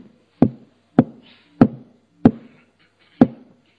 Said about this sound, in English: Nothing. And again I knocked. 3, 4, 5 times I knocked.